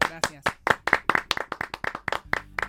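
A short burst of applause from a small group, the individual claps sharp and distinct at a quick, uneven pace, fairly close and steady in loudness for a few seconds.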